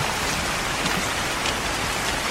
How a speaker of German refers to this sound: Es regnet ja wirklich voll. Ja.